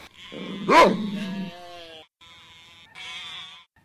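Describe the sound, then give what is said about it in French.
Sheep in a flock bleat in several wavering, drawn-out calls while a sheepdog, running after a stray sheep, gives a sharp bark near the start. There are brief pauses between bleats. “Brave chien de berger, tu cours derrière le mouton égaré. 30, 40, 50, bien à l'ombre, le troupeau est au complet.”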